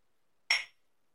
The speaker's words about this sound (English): So it's going to be a cup of coffee with heavy cream and a little bit of Jameson. Nice. Shall we clink? Yeah, we shall.